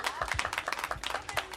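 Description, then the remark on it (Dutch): A crowd applauds together after a poem reading, a dense patter of many hands clapping steadily at moderate volume throughout the short burst, with no speech over it. “Applaus voor Fief.”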